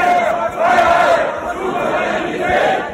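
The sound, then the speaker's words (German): Hundreds of protesters from the Querdenker scene, marching through Leipzig city centre against the Corona rules, chant slogans such as 'Maske runter' and 'Merkel muss weg' in unison. Many voices rise and fall in rhythmic waves, loud and continuous, with a dense murmur of the crowd underneath. “Auch andere Sprechchöre sind zu hören.”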